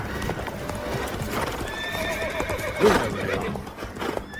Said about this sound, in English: Horses. We've been found.